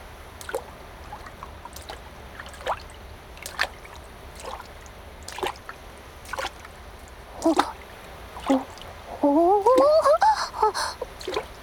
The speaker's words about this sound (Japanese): ショップの方からレクチャーいただいたその通り、まずはボードに腹ばいになり、足ひれをバチャバチャやって波をしっかり受け止められるところまで。